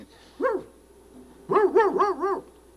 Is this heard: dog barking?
yes